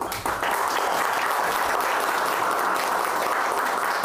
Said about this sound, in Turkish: Pek alışkın değilim böyle alkışlara ama olsun.